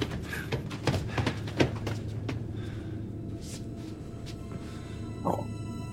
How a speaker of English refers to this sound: Now the door opens. But where does it lead?